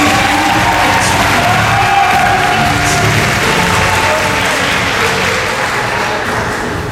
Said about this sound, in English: Once again, that was Dark Magician and Dark Magician Girl from Yu-Gi-Oh! So one more round of applause, please.